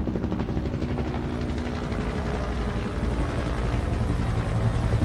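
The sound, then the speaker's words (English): A DEA helicopter searching for illegal grow operations over countryside roars close by, its rotor thumping in a steady rapid beat over a loud, broad engine drone that stays strong and constant throughout. “But still to this day, I can remember seeing the pilots' faces. That's how close these helicopters were to us.”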